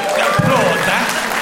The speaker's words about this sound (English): Applaud that.